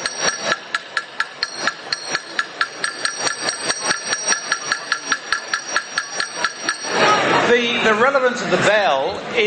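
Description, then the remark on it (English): A bell from the original HMAS Sydney, the ship decommissioned in 1928, clangs in a fast, steady series of bright strikes for about seven seconds, its ringing tone hanging between hits, before the clanging stops and people's voices take over. “Exactly, a bell from the original HMAS Sydney.”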